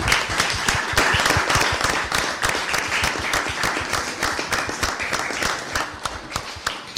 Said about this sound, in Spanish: Bueno, pues yo les voy a pedir a todos y a todas un aplauso para ustedes mismos, ¿les parece?